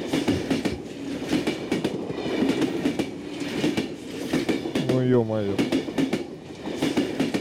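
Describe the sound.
A train carriage rattles and clacks steadily along the rails with rhythmic jolts, continuous, while a man mutters briefly over the noise.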